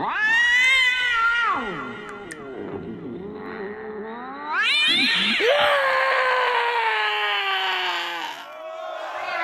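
cats yowling and screeching

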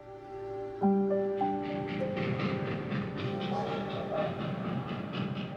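train passing with whistle

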